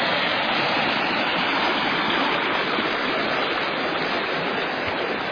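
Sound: flowing creek water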